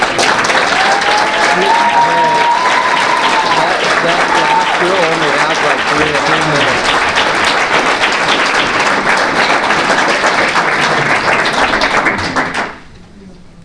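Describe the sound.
A crowd applauds loudly and steadily for about twelve seconds in support of a person at a public meeting, the dense clapping holding an even level before cutting off sharply. A few voices call out near the start.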